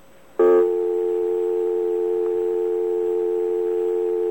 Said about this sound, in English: And you cannot speak over that dial tone. That's a normal dial tone if you don't say anything.